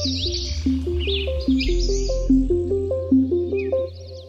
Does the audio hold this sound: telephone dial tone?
no